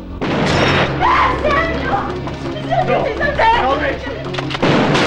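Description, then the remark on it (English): Several loud shotgun blasts, fired at a buggy inside a barn on a farmstead, crack out at uneven intervals over a dense, rumbling background, with indistinct voices mixed in beneath the shots. “Samuel stops running and stares back at the farmstead as he hears the shots.”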